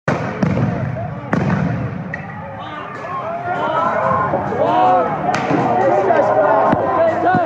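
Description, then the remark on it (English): Several sharp, loud bangs as Portland police charge, rip apart barricades and fire stun grenades and pepper balls, going off at irregular intervals over a dense background of many people shouting and yelling. “After only a few hours, police came charging from around the corner, ripping apart barricades and firing off stun grenades and pepper balls.”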